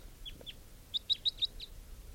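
A circling type 3 call-type bird, brown or green, approaches while giving a series of short, high chirping calls, faint at first, then four sharp, louder chirps in quick succession before a softer final call, with no talking.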